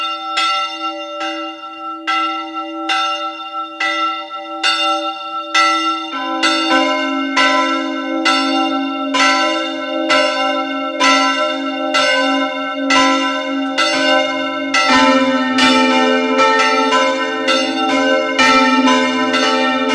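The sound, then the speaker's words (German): Bells of the parish church Maria Heimsuchung in Kogelhof, eastern Styria, ring out steadily at 12 noon with rich, overlapping peals; strikes repeat roughly every second, and additional bells join partway through, building a dense, resonant, loud chime with no voices. “Es ist 12 Uhr. Sie hören die Glocken der Pfarrkirche Maria Heimsuchung in Kogelhof in der Oststeiermark.”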